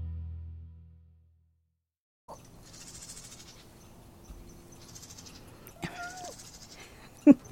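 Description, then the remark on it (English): Agitated pet birds, upset by a cat walking by, chatter in repeated high, scratchy bursts over background noise, with one louder squawk near the end and a sharp clack to close. “The birds are a little upset because my cat just walked by.”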